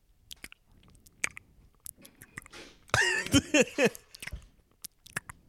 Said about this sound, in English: You're going to have to tell me how much you can hear me chewing gum in the fucking podcast.